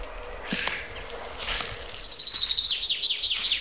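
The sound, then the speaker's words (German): A chaffinch sings a rapid run of bright, high chirping notes that repeat in a steady rhythm for a couple of seconds, after a few scattered calls. No one speaks. “Also wir hören jetzt die Buchfinken, wir hören den Baumtöter.”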